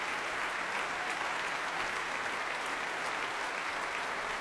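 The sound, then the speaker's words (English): Steady applause from an audience after a piece by Helen Grime, with conductor Oliver Nusson joining in, a dense, continuous patter of many hands clapping at an even level throughout, with no voices standing out above it. “Oliver Nusson greeting Helen Grime with a kiss on each cheek and enthusiastically joining in the applause.”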